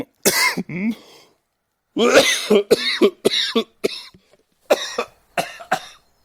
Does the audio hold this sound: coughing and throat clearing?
yes